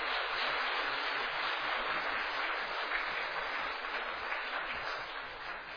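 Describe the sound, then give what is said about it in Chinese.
Sustained applause from an audience at a church worship service, given to encourage the singers of the hymns, a dense steady clatter of many hands clapping at once, continuous for several seconds and fading slightly toward the end, with no voices over it. “咱用一个掌声甲伊鼓励者。”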